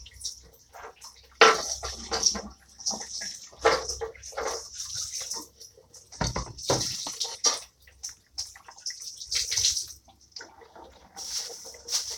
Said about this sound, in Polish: Umyłem już, tylko myję kran.